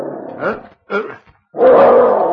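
A dog, Danny, growls a warning in two short rumbling bursts, then lets out a longer, louder snarl that holds steady to the end.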